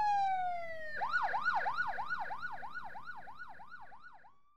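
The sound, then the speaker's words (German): An approaching ambulance's siren blares, opening with a brief held wail before breaking into a rapid, regular rising-and-falling yelp that stays loud throughout, with no voices. “Der Krankenwagen kommt.”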